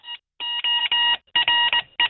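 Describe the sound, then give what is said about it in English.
Loud, clear electronic beeps tapping out Morse code spelling M-O-R-S-E, as in the opening music of Inspector Morse, a steady pattern of short and long tones separated by brief gaps, with no voices. “So Inspector Morse, when you hear the music at the beginning, that's spelling out Morse code.”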